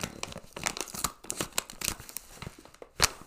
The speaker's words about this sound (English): don't edit out the wrapping paper ASMR. I'm not going to edit it out.